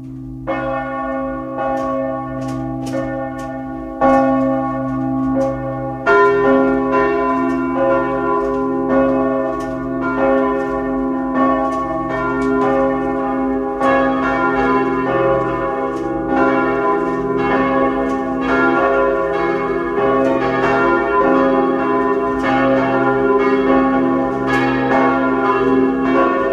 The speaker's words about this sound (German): Es ist 12 Uhr. Sie hören die Glocken der Stadtpfarrkirche Bleiburg in Kärnten.